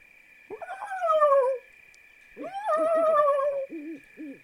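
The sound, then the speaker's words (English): A person imitates a barn owl call with two long, wavering, falling wails followed by a few short hooting notes, fairly loud, over a steady high-pitched hiss. “How about the barn owl?”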